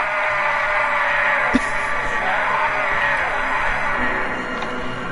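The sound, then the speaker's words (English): A man lets out a long, loud, strained yell that holds steady for about five seconds, raw, with no other voices around it; it is his yell in a film scene where he is crucified. “I have the yell when he's crucified.”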